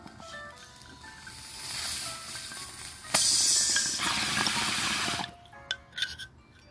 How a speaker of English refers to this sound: And let's take this last bong hit together and take a nap. Cheers.